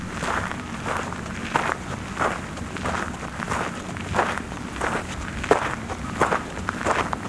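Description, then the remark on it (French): Steady footsteps walking at an even pace around a pond, at about 1,200 metres altitude, roughly ten soft crunching steps in a regular rhythm, over a low rumbling background hiss with a light breeze; no voices. “Dernier pas. Autour de l'étang.”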